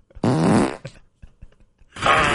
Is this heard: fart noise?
yes